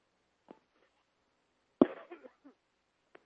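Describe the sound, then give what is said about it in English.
A few abrupt coughs during a roll-call vote at a meeting, with no talking: a soft one first, then a louder, harsher cough trailing into short rasps, and another sharp burst at the very end. “Excuse me, coughing.”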